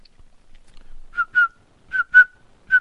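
Someone imitates crickets chirping with short whistled chirps, five quick mid-pitched bursts in an uneven rhythm, fairly loud against silence.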